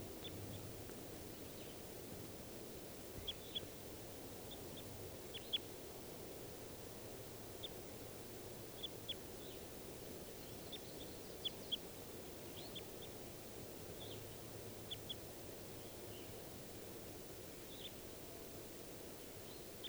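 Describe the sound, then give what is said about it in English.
Wild birds, at least three in the trees including a male and a female, call in short, high chirps scattered irregularly across the whole stretch, fairly faint above a steady rushing hiss and low rumble, with no one speaking. “So recording those wild birds again.”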